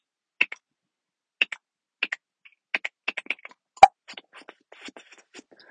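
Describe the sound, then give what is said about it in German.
A displaying cock bird's clicking courtship call: sharp, dry clicks ('Glöckeln'), first in spaced pairs, then quickening into a faster series with one loud snap (the 'Hauptschlag'), followed by softer scattered clicks. “Also wenn der Hahn anfängt zum Balzen.”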